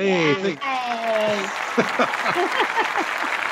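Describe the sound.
A crowd bursts into steady, dense applause welcoming back a returning former co-host on the Writer's Block show, with loud cheering and whooping voices at the start that fade as the clapping carries on at a constant level.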